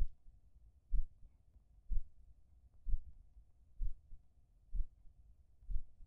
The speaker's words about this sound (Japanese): ほら、耳を澄ませて。姉様の心臓の音、聞こえる？